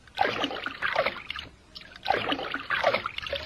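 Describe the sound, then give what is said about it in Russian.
Rhythmic water splashing as a bird dives and swims underwater, with four or so swishing paddling strokes, fairly loud, with no voices. “Первый раз встречаю птицу, хорошо плавающую под водой.”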